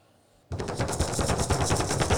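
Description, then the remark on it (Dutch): A sudden, loud thunderclap bursts in after a brief quiet, then continues as a harsh, rattling roll of rapid crackling pulses across a wide range. No one speaks. “Nee, was de bliksem.”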